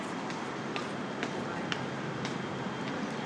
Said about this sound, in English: Holy shit, there it is, there it is. There's the train. There's my train. So I think I see my train up there.